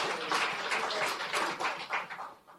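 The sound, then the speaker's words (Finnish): A crowd breaks into steady applause given in thanks to the Lord, a dense crackle of many hands clapping that holds for a couple of seconds and thins slightly toward the end. “Kiitos Jumalalle, Herralle aplodit.”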